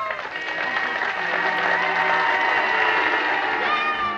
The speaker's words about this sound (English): A year later, fans in Oskaloosa showed their respect by cheering and honking their horns.